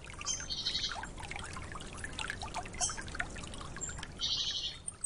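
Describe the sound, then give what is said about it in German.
Water laps and splashes softly among reeds in a wetland in a steady trickling wash, while a few high bird chirps ring out over it. No one speaks. “Es kann das Revier der Nachtigallen sein, in Feuchtgebieten der Gesang der Frösche, das Plätschern im Schilf.”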